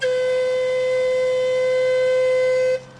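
A single long whistle blast sounds a loud, steady, unwavering tone for nearly three seconds, then cuts off abruptly, leaving a faint hum. No one speaks.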